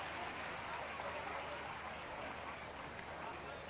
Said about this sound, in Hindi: और इनका दिल बनाए रखने के लिए आप एक बार जोरदार तालियों की बारिश कर दीजिए, ताकि उनका उत्साह और बरकरार रहे। और एक बार जोरदार तालियों की बरसात कर दीजिए।